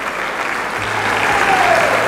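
Sustained applause from a large crowd in a hall as the president takes his place for a change-of-command ceremony, a dense, steady wash of clapping that stays loud throughout and swells slightly toward the end, with no voices standing out.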